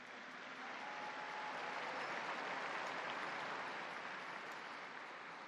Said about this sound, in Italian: Un applauso alla nuova Beata.